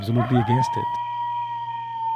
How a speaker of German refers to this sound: Nachts heulen Kojoten in der Wüste. Anhaltend, aufgeregt.